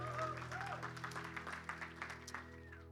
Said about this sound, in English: Come on, can we give Jesus a big round of applause this morning?